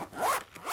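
A quick zipper pull closing a pencil case kept in a school backpack, a short raspy buzzing slide lasting under a second, moderately quiet with no voices.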